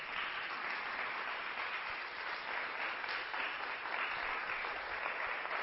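Sustained crowd applause, a dense steady wash of many hands clapping at an even, fairly loud level throughout, with no voices standing out, as an audience welcomes INE Electoral Councillor Beatriz Claudia Zavala Pérez to a panel on youth voting and participation in electoral processes.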